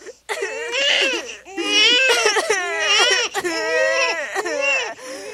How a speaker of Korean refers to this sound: 아직도 아군이 모자라기라도 하다는 듯 오라는 다시 아기를 갖게 돼 저지 말랐고 집안에서는 배고프다고 아이가 울어대는 소리가 그치지 않았다.